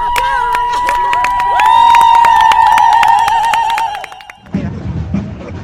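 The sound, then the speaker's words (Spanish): A protest crowd claps steadily and cheers, with a long sustained whistle-like tone riding over the noise. The applause stops abruptly near the end, leaving quieter murmuring voices. “Aplaudan, aplaudan, no dejen de aplaudir, que todas las mujeres se van a hacer oír.”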